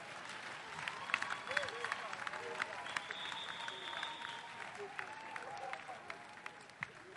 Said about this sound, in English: Clap your hand well.